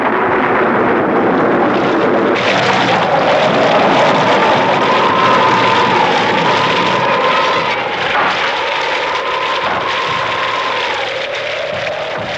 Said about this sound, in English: Tonight, the wind is howling, and from the sky, torrents of blood and pus are falling.